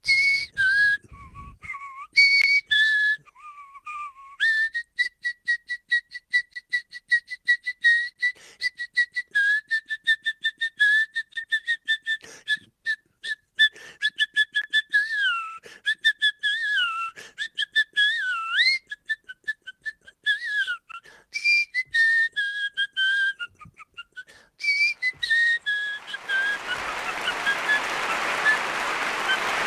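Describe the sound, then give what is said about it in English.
Someone whistles an arena-organ style tune and a fight song in quick, bright staccato runs and sliding notes, then it gives way to a burst of hissy, applause-like noise. “That's my arena organ music whistle and fight song.”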